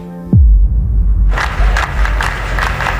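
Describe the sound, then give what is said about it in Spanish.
A large crowd of pro-ETA protesters chants slogans, death threats and cheers for ETA in loud, rhythmic bursts of shouting, rising abruptly after a brief tone cuts off into a low, deep rumble; heard inside a darkened, black-painted exhibit container. “Al entrar el visitante se queda completamente a oscuras y empieza a escuchar los gritos de los manifestantes proetarras, sus consignas, sus amenazas de muerte, sus vivas a ETA.”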